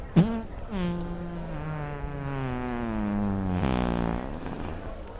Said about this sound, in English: What's that? Oh, you farted right in my fucking mouth. Nasty.